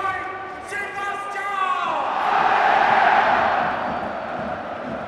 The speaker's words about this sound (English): Those that you can hear are the Borussia Mönchengladbach fans. Still making plenty of atmosphere, despite the fact their team is on the wrong end of what's looking an increasingly ugly result for them.